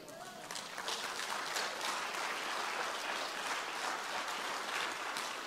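A crowd bursts into steady applause, dense overlapping claps sustained at an even level for several seconds.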